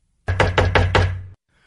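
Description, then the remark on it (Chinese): A rapid burst of five loud, hollow knocks on a wooden door, struck in quick, even succession with an urgent feel, then silence; a man knocking at a doctor's door to get help for his sick son. “医生，医生， 什么事啊？敲门敲得这么急？”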